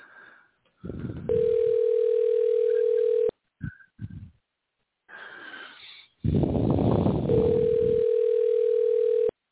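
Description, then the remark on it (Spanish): Two long, steady mid-pitched ringback tones from a telephone call placed live on air, separated by a pause, with soft breathy rustling and muffled noise underneath. “Vamos a ver si está sonando el teléfono.”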